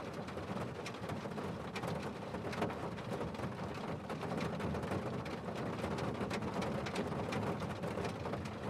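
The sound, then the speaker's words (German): Steady rain patters on the roof of a bus, a continuous soft hiss dotted with scattered drips and taps, blending with the quiet, monotonous rush of the heating, a low rumbling undertone throughout and no voices. “Das sanfte Geräusch des Regens gegen das Dach schafft einen beruhigenden Klang.”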